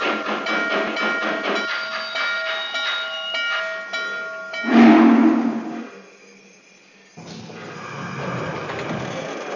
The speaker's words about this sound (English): San Francisco, on track 1, train number 98, the Coast Daylight.